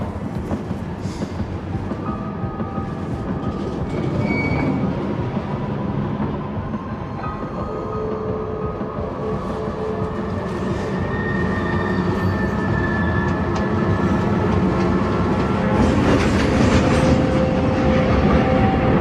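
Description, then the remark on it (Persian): A shuttle train bound for England runs steadily through a tunnel, a continuous heavy rumble with metallic whines and faint rhythmic clatter that grows gradually louder, with no voices. “یه کد 0 روی قطار شاتل به مقصد انگلیس دریافت کردیم. الان وارد تونل شد.”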